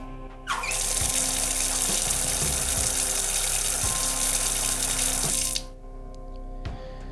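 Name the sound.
water being poured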